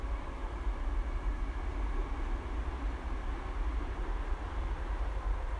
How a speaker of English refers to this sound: As a train goes by in the background, I'm going to move on and take you into the heart of Woodlands